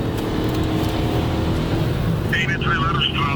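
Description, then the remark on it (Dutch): Loud, steady rumble of car engines and road noise as five or six cars drive close behind, chasing and boxing in a car, with a brief raised voice near the end. “Ze zitten met 5-6 auto's achter ons aan.”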